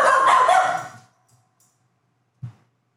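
dog barking

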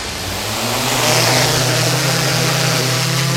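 drone taking off

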